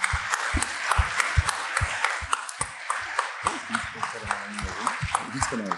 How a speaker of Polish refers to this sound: A darczyńcami, sponsorami nagród jest Investment Partners, Independent Trader, Mennica Gdańska i anonimowy darczyńca, więc wielkie brawa, bardzo dziękuję z tego miejsca.